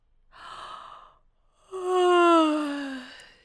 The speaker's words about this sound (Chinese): 我强撑开一只眼皮看了看，忍不住打了个哈欠。